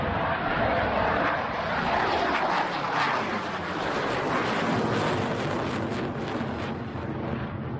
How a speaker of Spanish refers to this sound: Era un caza militar sobrevolando Palma, lo que causó extrañeza e incluso alarma a quien lo vio y lo escuchó, porque el sonido era bastante fuerte.